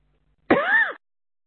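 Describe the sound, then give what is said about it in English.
A single short cough, fairly loud, opening with a sharp burst of breath that slides into a brief voiced rasp before silence. “I'm having to cough a bit every now and again today.”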